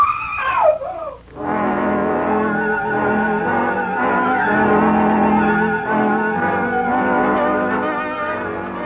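A woman's high, wavering scream rings out for about a second, then breaks off as a loud, dense, sustained swell of tones rises and holds steady until the end.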